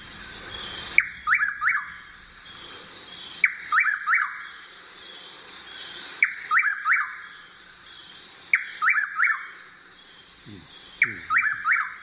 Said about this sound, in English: And it was after midnight, and she didn't want to disturb her slumbering fellow campers by speaking. So we'll just hear the bird she was listening to, a Chuck Wills widow.